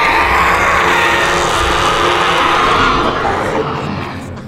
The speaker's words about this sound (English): Then the foul spirit convulsed him. And with a deafening shriek,